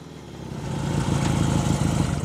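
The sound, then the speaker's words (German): A motorcycle engine runs with a steady, throbbing low rumble that swells slightly louder after the first half second and holds there, no voices present. “Das Motorrad und ich. Letztes Kapitel. Ich auf dem Motorrad.”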